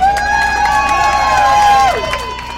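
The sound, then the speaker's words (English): Dozens of Republicans cheer loudly at their party's campaign center in Pueblo, Colorado, one morning, greeting Republican Chairman Michael Steele on his cross-country tour. One sustained high-pitched whoop slides downward near the end over a steady roar of voices and scattered claps. “But don't tell that to the dozens of enthusiastic Republicans who rallied at their party's Pueblo campaign center on a recent morning.”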